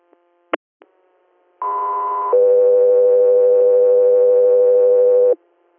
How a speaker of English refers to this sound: Guthrie Air, stand by for tones.